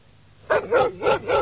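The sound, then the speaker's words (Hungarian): A dog at a farmstead barks four times in a quick, even rhythm, the barks loud after a brief quiet start, with no voices. “A kutyák egy pillanat alatt felverhetik a tanyát.”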